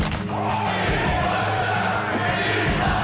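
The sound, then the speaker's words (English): A loud, steady Ric Flair-style wrestling "woo" battle cry rises over a roaring crowd for about three seconds, with no separate claps standing out, played on the Toronto sports radio show Dean Blundell and Company on Sportsnet 590 The Fan. “I give you two claps and a Ric Flair.”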